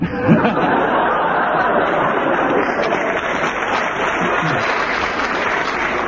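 Sustained applause from a studio audience applauding a panellist's thoughts and comment, a dense, steady roar of clapping at an even loudness for several seconds, with faint chuckles and murmurs mixed in.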